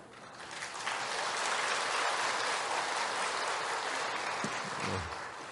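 A church audience claps steadily for about five seconds after a missionary's testimony, a dense, even patter of many hands that swells quickly and holds loud before thinning slightly at the end, with no one speaking.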